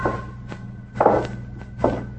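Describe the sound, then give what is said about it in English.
Footsteps tap slowly across a hard floor, five or so uneven, muffled knocks over a steady low hum, as a blind man taps his way along the floor to a desk, with no voices. “Tapped his way along the floor to the desk, stooped over a drawer, and stayed there in a crouch like a guy in a trench.”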